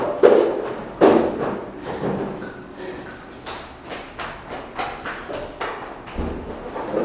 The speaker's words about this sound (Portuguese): Ajuda ela, gente, por favor. Ela fica arrastando essas cadeiras aí. Ajuda ela.